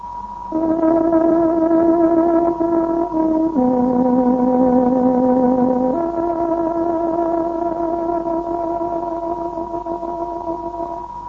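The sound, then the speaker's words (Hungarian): A reedy tárogató plays a slow, sustained melody of long held notes as the time signal marking 21:00 on Radio Free Europe's Hungarian shortwave service, the Voice of Free Hungary, dropping to a lower pitch midway before rising again, steady and fairly loud with a faint hiss beneath. “Kedves hallgatóink, pontos időjelzést adunk. Tárogatónk 21 órát jelez.”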